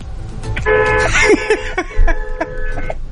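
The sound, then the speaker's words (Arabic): A car horn honks a couple of times, steady tonal blasts over the hum of a vehicle interior and some background noise. “أعطينا واحدة بيب بيب.”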